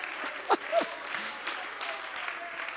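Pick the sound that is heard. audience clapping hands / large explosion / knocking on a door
audience clapping hands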